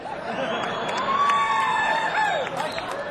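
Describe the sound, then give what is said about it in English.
A crowd applauds and cheers in a steady, dense wash of clapping, with a few sliding whistles rising above the noise, continuous for a few seconds. “And when you, you know, when you clap your hands for him, it's just like making love to an old maid.”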